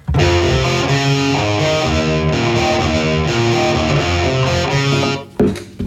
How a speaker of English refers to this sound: Right. Okay, now, look over here. This is the original guitar